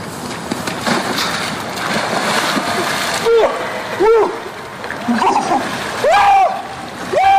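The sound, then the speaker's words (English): A person plunges into ice-chilled water, 45 degrees or colder, with a big, sustained splash and churning, then lets out several sharp, rising gasps and yelps as the water settles. “You gotta jump in cold water, and I'm gonna look for it on Facebook.”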